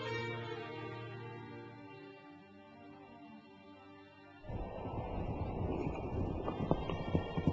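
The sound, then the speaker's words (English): A sustained droning tone fades out, then loud, rapid galloping horse hooves burst in and pound steadily, mixed with a rough, windy rush for the last few seconds. “Bashir says, "I rode a horse and rushed to enter Medina.”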